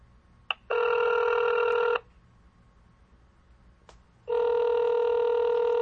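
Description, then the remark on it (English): A telephone on a Google phone line rings twice for an incoming call with long, steady electronic tones separated by a two-second pause, each ring preceded by a soft click; the ringing is clear, with no voices. “I love this Google phone line.”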